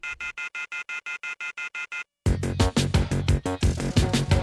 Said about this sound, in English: The telephone keeps ringing, so I ripped it off the wall.